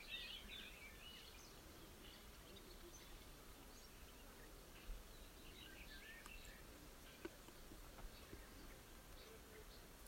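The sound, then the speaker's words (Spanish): Faint birds singing, with a cluster of high chirps at the start and scattered calls later, over a soft, steady outdoor hiss. “Y traiga cada vez el foco de su atención al canto de los pájaros.”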